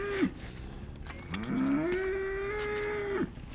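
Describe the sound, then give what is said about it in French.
A cow moos loudly, a brief low call followed by a long, drawn-out rising moo that holds steady before cutting off, sounding insistent and impatient, grumbling because things are taking too long. “Et là, elle râle parce qu'elle trouve que ça prend un peu trop de temps ou...”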